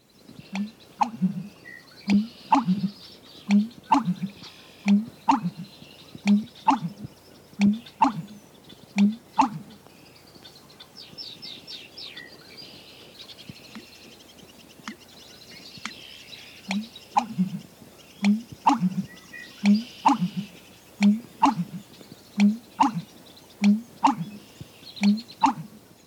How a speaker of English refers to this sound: Our last unusual songster, the American bittern, is perhaps the most remarkable. His vocalization is created as he gulps and expels quantities of air. Here's the American bittern.